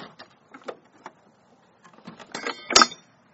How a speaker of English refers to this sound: Well, I broke the door.